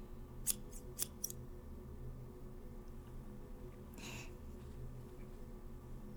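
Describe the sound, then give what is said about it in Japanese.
Scissors snip hair, trimming damaged hair ends: three quick crisp cuts near the start, then a softer, longer snipping burst a few seconds later, over a low steady background hum with no talking. “ハサミもあるし。”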